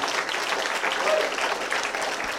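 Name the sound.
audience applause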